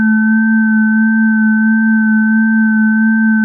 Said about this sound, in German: Da war es wieder. Dieses komische Läuten, welches sie im Laufe ihres Aufenthalts hier als Türklingel identifizieren konnte.